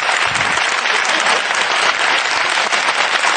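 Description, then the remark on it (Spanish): An audience claps steadily, a dense, even wash of many hands with no pauses for the full few seconds, loud throughout and with no voices standing out. “Pues, si me pueden aplaudir una vez más.”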